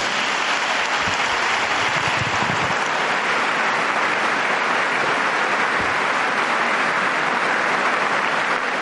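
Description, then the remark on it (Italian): Sustained applause from a large RAI audience gathered in the Paul VI Audience Hall, following a joke by Pope Francis, fills the big reverberant hall, a steady dense wash of clapping that stays loud throughout with no voices on top. “E con questa battuta di Papa Francesco, che sentite sottolineata dagli applausi della RAI che è riunita in aula Paolo VI, il Papa ha concluso l'udienza rivolta all'amministratore delegato, al direttore generale, al consiglio di amministrazione”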